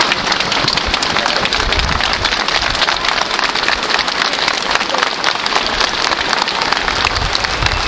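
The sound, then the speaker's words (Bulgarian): Police officers give a loud, sustained ovation as a man appears among them, with dense, steady clapping that rolls on without a break for the whole stretch. No voices stand out above the applause. “При появата си сред пушещите полицаи, той бе посрещнат с овации.”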